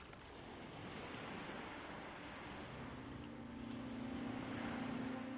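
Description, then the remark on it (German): Steady ocean surf washes and breaks along a shore, a continuous roar with gentle swells in loudness, while a faint low engine hum joins partway through. No voices. “Du hörst, wie die Wellen gleichmäßig ans Ufer rollen, sanft brechen und wieder zurück ins Meer gleiten.”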